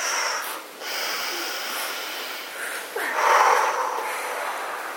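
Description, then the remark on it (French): Two forceful, breathy exhalations, noisy and airy, the second louder and fuller, with no talking, done as two dynamic breaths to activate the breathing during a relaxation exercise. “Nous activons la respiration, par exemple, deux fois, dynamique.”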